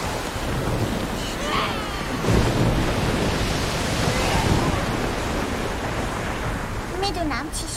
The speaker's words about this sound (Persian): این فقط طوفانه، تموم میشه. باور کن تموم میشه.